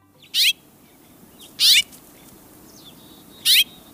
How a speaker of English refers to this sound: Have you noticed those little brown birds with red breasts at your bird feeders? Those are house finches, familiar birds all across North America.